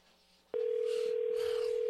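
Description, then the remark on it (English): A telephone dial tone clicks on and holds as a loud, steady, unbroken hum through the rest of the moment, with faint background noise and no talking, as a radio host places a call to the Illini Union at the University of Illinois. “It's always a fun phone call to make in the day.”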